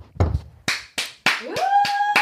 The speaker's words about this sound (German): ich brauche einen Applaus und warte.